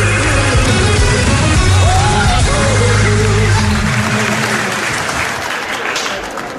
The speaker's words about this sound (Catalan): I ara, com cada cap de setmana, mossèn Nit, que s'anirà acompanyat dels escolanets, si pot ser a Colliver, aplaudit amb crits de guapo, cap al metro, cap al metro.